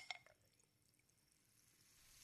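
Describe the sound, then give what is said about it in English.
A small splash as a Salpidine effervescent tablet drops into water in a bottle, then a soft, steady fizzing hiss that swells gradually as the bubbles build. Quiet, with no voices. “The sound of the salpidine creating the bubbles.”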